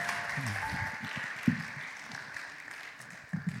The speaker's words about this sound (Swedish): En applåd.